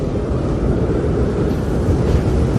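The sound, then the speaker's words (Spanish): Wind blows steadily in Madrid, a loud, deep rumbling roar with low buffeting and a faint hiss above it, filling the whole recording with no voices. “Y lo dicho, sobre todo un día con este sonido ventoso.”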